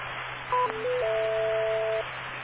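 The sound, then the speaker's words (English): Steady, muffled radio static hisses between transmissions, with a short series of electronic beeps and a longer sustained tone cutting through it midway. No one speaks. “with some static.”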